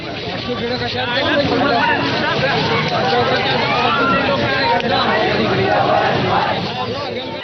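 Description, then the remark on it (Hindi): A large protest crowd in Maharashtra, India, where people of the Maratha community are protesting to demand reservation, roars continuously, a dense wash of many overlapping voices shouting and chanting at a steady, loud level throughout, with no single voice standing out. “ये आवाजें आज की हैं, महाराष्ट्र से आई हैं।”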